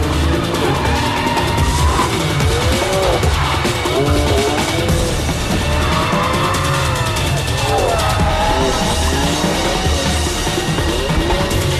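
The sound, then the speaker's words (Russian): A BMW M4 GTS sports car drives hard around a track, its engine revving up and down in repeated sweeps amid steady roaring noise and brief tire squeals, loud and continuous throughout. “Все эти звуки, это потому что они на треке здесь проезжали.”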